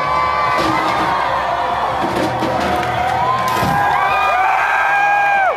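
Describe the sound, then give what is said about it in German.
A large crowd of Black Lives Matter protesters in Bristol, England, cheers and shouts continuously as they throw the statue of slave trader Edward Colston into the harbour basin. Rising whoops and high-pitched yells break out over a dense roar of voices, and the excitement swells toward the end. “Das sind Black Lives Matter Protestierenden, die in Bristol die Statue von Edward Colston, einem Sklavenhändler, in das Hafenbecken werfen.”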